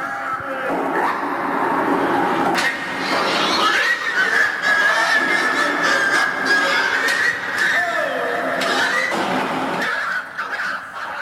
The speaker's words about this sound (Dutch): Maar laten we eerst even luisteren naar de varkens in Tielt waar ik het over had.